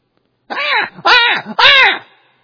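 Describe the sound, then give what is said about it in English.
A man's voice imitates a newborn baby crying, giving three loud, wailing bursts in quick succession, each rising and falling in pitch with no other sound. “What does a newborn baby do? Cries.”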